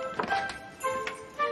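A front door being opened, heard as a few soft clunks and taps from the latch and handle, spaced irregularly over a faint steady background hum, with no one speaking.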